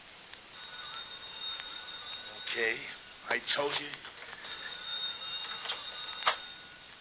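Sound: telephone ringing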